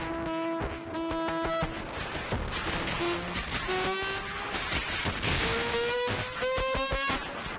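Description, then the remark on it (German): Harsh, distorted synthesizer blasts in a hyperpop song crash over a pounding beat, with buzzing tonal lines sliding through dense bursts of noise that sound almost explosive, loud and relentless with no voices. “Noisige Synthesizer, wie zum Beispiel ….”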